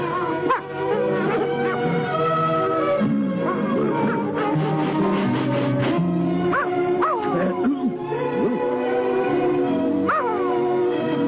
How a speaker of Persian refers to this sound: برات یه دوست خوب و جانب آوردم. نه فقط بکن اونم سگ شکاری خوب میشه. حالا فسخلیه ولی یه روز بزرگ و قوی از آب در میاد.